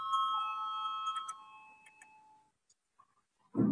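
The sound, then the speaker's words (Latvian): A parliament voting bell rings before a vote on the 27th proposal of the responsible committee, a steady, bright electronic tone with a few faint ticks, holding for about two and a half seconds before fading out. A short low burst follows. “Lūdzu, zvanu, balsosim par 27. atbildīgās komisijas priekšlikumu.”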